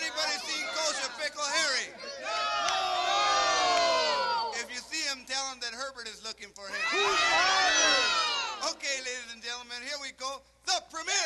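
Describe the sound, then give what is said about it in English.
Canned crowd noise added to a song recorded in Hollywood to make it sound like a live performance: a dense wash of cheering, whooping voices that swells loudly twice, dipping into scattered shouts between the surges. “adding in some canned crowd noise to make it sound like a live performance.”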